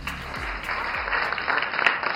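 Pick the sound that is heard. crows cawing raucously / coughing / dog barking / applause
applause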